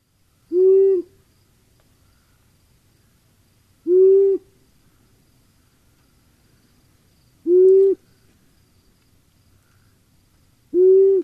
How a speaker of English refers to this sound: And I guess the first one, maybe we should say, if you're trying to sort of reproduce the sound of an owl, this is the simplest one. At least that's what these instructors think. Like the simplest owl call on the planet, a male long-eared owl.